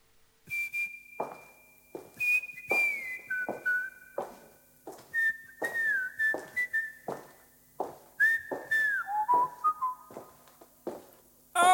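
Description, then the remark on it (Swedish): A song with a whistled melody, sustained and sliding notes carried over a steady, rhythmic accompaniment of sharp plucked or percussive hits, moderately loud with no singing or speech. “Och nu ska vi lyssna på musik.”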